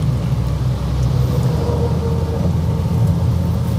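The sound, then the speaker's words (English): A heavy truck rumbles along the road at low speed, its deep engine drone loud and steady throughout, with a constant broad road noise and no voices. “So anyway, this truck's going really slow. He must have a load.”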